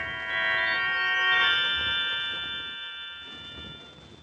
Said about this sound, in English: I rang the doorbell. No answer.